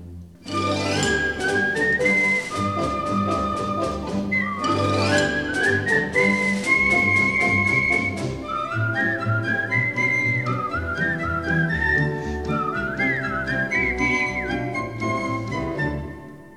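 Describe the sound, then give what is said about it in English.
A person whistles a lively, bright tune, its clear melody rising and falling over steady instrumental accompaniment that fills the background throughout, with no talking. “When they're sorely pressed, they whistle for a spell, and whistling seems to brighten up their day.”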